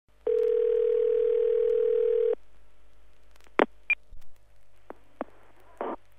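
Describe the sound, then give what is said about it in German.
A steady telephone line tone holds for about two seconds, then cuts off into a few short clicks and brief electronic blips as a call to the automated telephone information line of a chocolate museum in Waldenbuch, Germany, connects, with faint line hum underneath. “Sie hören eine automatische Telefonauskunft.”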